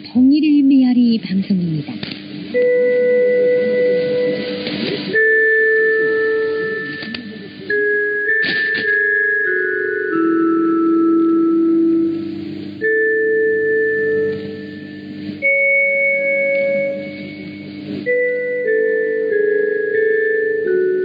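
A slow, dreary interval signal of the Korean radio station Echo of Unification, which is jammed by North Korea: a simple melody of long, sustained organ-like notes stepping up and down over steady hiss, opening with a brief wavering sweep.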